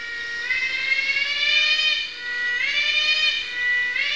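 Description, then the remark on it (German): A Malaysian cicada, a kind that likes to sing around midday, sings a loud, sustained, buzzy whine with a rich harmonic tone, repeating in roughly two-second phrases that each swoop upward in pitch and then hold steady. “Je nach Art singen sie zu unterschiedlichen Uhrzeiten, wie diese malaiische Zikade.”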